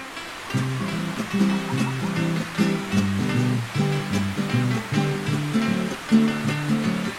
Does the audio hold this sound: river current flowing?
yes